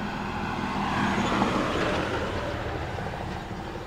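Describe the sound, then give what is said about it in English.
A UPS semi-truck cab with no trailer rolls past, a steady engine and road rumble that swells briefly, then eases off slightly as it continues by. No one speaks. “One of those 18-wheelers without the 18 wheels that's just going by.”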